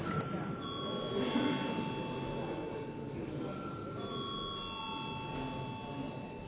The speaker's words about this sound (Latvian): Lūdzu zvanu.